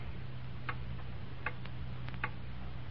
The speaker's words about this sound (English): Hear that clock? Morning, noon, and night.